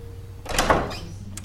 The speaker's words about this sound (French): La porte s'ouvrit avec hésitation.